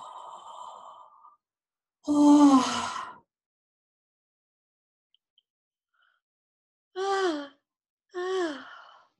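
Voiced yawns: one long, drawn-out yawn with a sighing fall in pitch, then after a pause two shorter yawning moans in quick succession. No talking.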